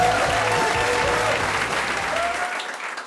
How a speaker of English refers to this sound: I have heard compares say the harder you clap, the funnier the act will be. But I fear you will have to clap very hard indeed for tonight's act.